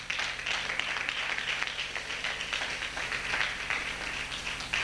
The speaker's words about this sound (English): Let's take your seats and give God a hand clap as you do.